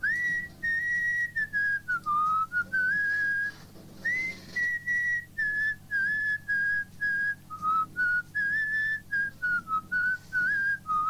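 A caller on the La Gramola radio show whistles a song melody alone for a guessing game, a clear, steady tone moving through a series of short and sustained notes in phrases, with brief breaths between them and a faint low hum underneath.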